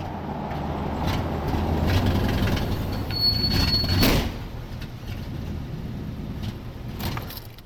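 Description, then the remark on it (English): A very loud, half-century-old Buick station wagon drives along with a heavy, steady engine rumble and road roar, a brief high whine and a clunk partway through, no voices. “At least I get to cruise around in my new friend's old car, a very loud Buick station wagon, half a century old.”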